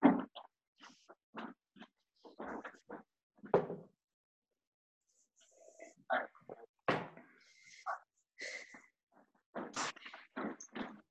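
A door is handled and opened for someone at the door, with a series of knocks, clunks and rattles, then scattered scraping and shuffling sounds as someone comes through, with faint voices mixed in.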